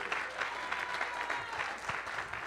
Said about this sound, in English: if you're expecting God to do a new thing in your life, would you give the Lord one more tremendous hand clap of praise? One more hand clap of praise. One more hand clap of praise.